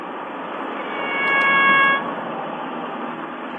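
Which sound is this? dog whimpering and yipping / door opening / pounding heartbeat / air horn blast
air horn blast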